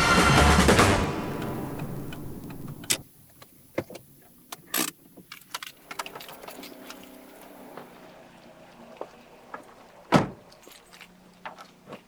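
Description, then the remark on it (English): The front door of a home being opened: after a brief loud rush, a series of scattered clicks, rattles and a few sharper knocks and thumps, with no one talking. “I'm just about to open the front door.”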